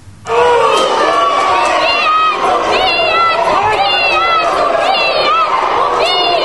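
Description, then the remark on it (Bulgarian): A large crowd of Roma outside the courthouse shouts and yells angrily, demanding justice as a court hearing begins, many raised voices overlapping in a loud, continuous, intense clamor. “Такива викове започна заседанието по мярката на Еленков.”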